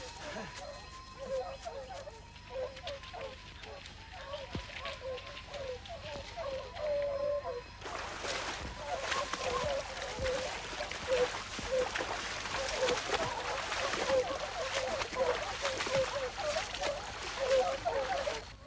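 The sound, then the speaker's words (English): Voices talk over a quiet start, then heavy, steady splashing and sloshing water takes over as people wade hurriedly across a river, with talking continuing beneath it. “The river. It's our only chance of losing the scent of the dogs.”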